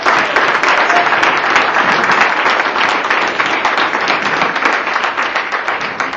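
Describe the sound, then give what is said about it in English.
An audience at a spoken word poetry event in Phoenix applauds the poets steadily for about six seconds, many hands clapping into a dense, even roar that stays loud throughout, with no voices standing out. “Y'all clap it up one more time for all the”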